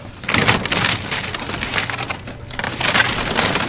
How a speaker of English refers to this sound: A track hoe clears debris from a neighborhood in Joplin, Missouri, or what used to be a neighborhood, I should say.